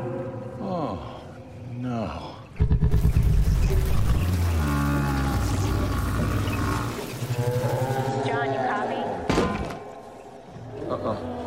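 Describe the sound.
A cow lets out a loud, long, drawn-out moo that fills several seconds, resonant, followed by a second lowing call, with faint voices murmuring before it starts.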